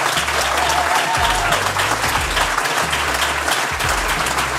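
Sustained audience applause at the Good Work Nacht live event in Wiesbaden, a dense, steady wash of many hands clapping at even loudness for several seconds, with a low hum running underneath and no voices standing out.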